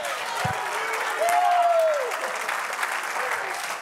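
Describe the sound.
A church audience claps and applauds steadily in praise to God, a dense wash of many hands, with a faint voice or cheer rising briefly above the clapping.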